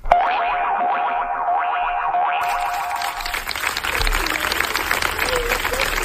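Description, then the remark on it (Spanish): A warbling, wobbly electronic tone plays for a few seconds, then gives way to steady applause from a crowd ending a gathering in front of the house in Seville where 14-year-old Sandra lived, a dense patter of many hands clapping that continues to the end. “Estos son los aplausos con los que ha terminado hoy la concentración delante de la casa en la que vivía Sandra, la niña de 14 años de Sevilla que se suicidó el martes tras denunciar que sufría acoso escolar.”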